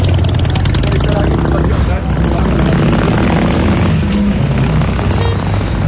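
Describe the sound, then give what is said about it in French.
An airplane flies over with a loud, steady propeller drone, a deep continuous rumble with a rough, buzzing edge that holds the whole time, and indistinct voices mixed faintly underneath. “Flight number 2, arriving.”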